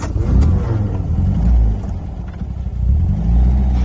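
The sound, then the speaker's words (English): An older car engine rumbles loudly from inside the vehicle, revving up and easing off a couple of times as it drives, with a heavy low-pitched drone throughout. “Yeah, I can tell that it's an older model this time.”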